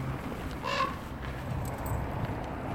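A single hoarse raven caw rings out once, brief, over a steady low outdoor rumble, with no other calls following.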